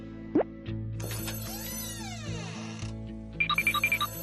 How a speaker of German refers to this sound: Nee, ich mach grad Pause, ich will jetzt nicht ans Telefon gehen. Nee, echt nicht.